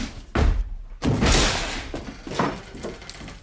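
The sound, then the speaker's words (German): A door is violently forced open, with a heavy slam and thud followed by a second crashing impact and rattling, splintering clatter as it bangs loudly. “Was tun Sie denn? Die Tür auf.”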